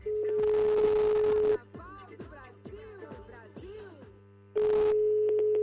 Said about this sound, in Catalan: I, bueno, si vols, la truquem en directe a veure si li donem una alegria. Doncs anem a provar si ens agafa el telèfon.